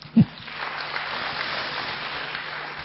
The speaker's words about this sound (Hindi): अब आप ताली बजा सकते हैं।